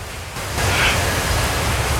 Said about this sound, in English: What is that? White grains pouring through the open vent above them.